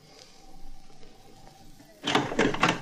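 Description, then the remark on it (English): After a quiet stretch of low room noise, an apartment door is opened with a burst of rattling latch and handle clicks followed by a short scraping swing, moderately loud. “Go ahead and open the door”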